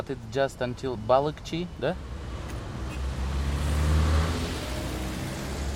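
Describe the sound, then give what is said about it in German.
A brief stretch of talking gives way to the rising roar of a car approaching and rushing past on the road from Bishkek via Issyk-Kul to China. It swells loud, then fades into the steady rumble of many mostly older cars, rusty turquoise Soviet-era small trucks and shiny black limousines. “Viele Wagen brausen vorbei, meist ältere Modelle.”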